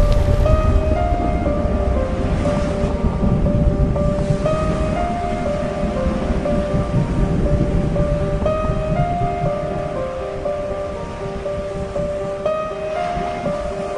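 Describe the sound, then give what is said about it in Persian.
Heavy rushing floodwaters roar steadily, water pouring down from the sky and bursting up from below to cover the land, with a dense hiss like pouring rain, loud, while sustained musical tones drone on top throughout. No one speaks. “انگار یه صحنه تصور کنید که همه آبها دارن به هم دیگه سلام علیک میکنن، همه آبها رفتن به این، تمام این زمین رو آب میگیرن.”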